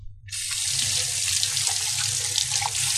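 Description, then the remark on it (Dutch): Running tap water pours steadily over an orange being washed at a sink, with a bright, continuous splashing hiss, starting abruptly after a brief pause and staying fairly loud throughout, with no one talking. “Dus we doen hem even onder de kraan wassen.”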